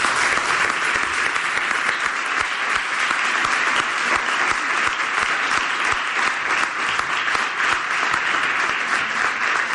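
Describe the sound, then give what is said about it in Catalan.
Sustained audience applause, a dense crackle of many hands clapping at a steady, fairly loud level for the full length without pause, with no talking over it. “Un aplaudiment”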